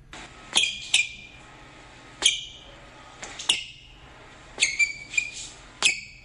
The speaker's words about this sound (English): Oh, those are squeaky shoes on a basketball court or something. Okay. That's your clue. So that was squeaky shoes?